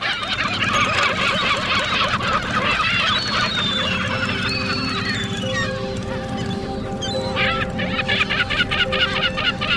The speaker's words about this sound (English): Nothing. Just sit by the water. Hanging out with the seagulls.